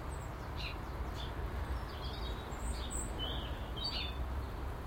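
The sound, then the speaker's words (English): Birdsong: a scatter of short, high chirps and twitters from a few birds, repeating irregularly over a steady, rushing outdoor background hiss. “But birdsong is soothing.”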